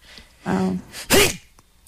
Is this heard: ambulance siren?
no